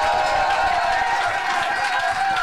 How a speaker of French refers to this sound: Et alors, en dernier, notre grand habitué, je vous prie de faire un tonnerre d'applaudissements pour Capitaine Fracas.